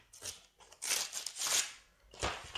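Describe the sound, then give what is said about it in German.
Paper being handled while unwrapping something large, rustling and crinkling in several irregular, bright bursts with brief pauses between them; fairly loud and with no voices. “Ach, dieses Papier.”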